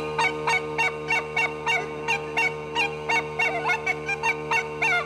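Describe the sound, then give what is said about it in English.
A piper's pipes hold a steady drone beneath rapid, repeated yelping notes that imitate hounds baying on the scent, around a dozen short bursts in a lively, uneven rhythm, fairly loud with no talking. “The dogs on scent.”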